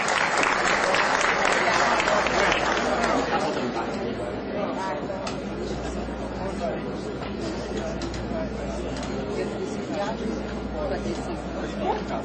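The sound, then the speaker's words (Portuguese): A crowd applauds steadily at a ceremony for people honoured with the title of cidadão forrosense, a dense wash of clapping that starts loudest and settles to a sustained level, with murmured crowd chatter mixed underneath throughout. “Uma salva de palmas.”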